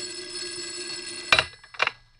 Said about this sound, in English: As I was about to lift him off the bed, the phone rang. A shrill ring filled the room.